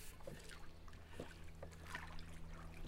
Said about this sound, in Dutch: Twee eikenhouten roeispanen gaan het water in, hier in de jachthaven van Kampen.